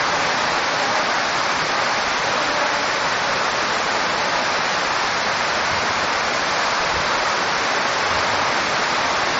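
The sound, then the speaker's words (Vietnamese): Heavy rain pours down in a dense, steady roar that fills the whole clip, loud and unbroken, with no voices or other sounds rising above the hiss. “À à à, các vị nào ở dưới muốn thì dồn lên chút đi, trời mưa lớn quá, sửa ngồi dưới nghe.”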